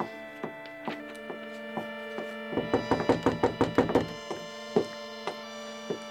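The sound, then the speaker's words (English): The Apostle Peter knocks on a wooden door at night, a few spaced knocks, then a rapid insistent flurry, then slower knocks again, over a steady humming tonal background. “you go to the door and see who is calling this time of night.”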